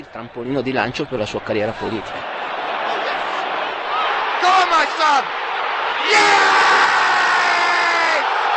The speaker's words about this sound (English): Goal to Inter, 1-0, hear the crowd.